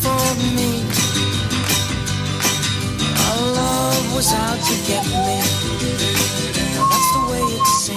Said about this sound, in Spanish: ¿Estás silbando? Sí, es que como no me sé la letra, claro.